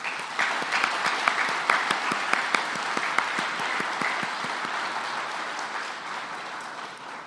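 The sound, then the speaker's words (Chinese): A church audience claps steadily for several seconds to encourage high school students who served at the Youth Sunday service, a dense patter of many hands with a few sharper claps standing out, holding an even level throughout with no voices over it. “他们第一次在大堂服事都很紧张，我想要请各位给他们一个掌声鼓励。”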